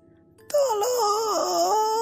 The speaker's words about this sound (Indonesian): Suara rintih meminta tolong itu semakin jelas terdengar. Suara itu bukan berasal dari rumah, melainkan dari dalam lemari.